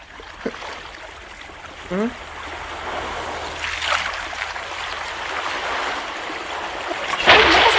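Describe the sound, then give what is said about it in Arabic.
Continuous wash of sea water sloshing and splashing around a small boat out at sea, with a brief rising chirp early on and a louder splash burst near the end. “أين نحن؟ في البحر. سبحان الخالق.”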